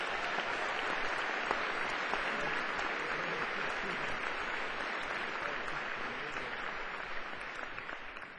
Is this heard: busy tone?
no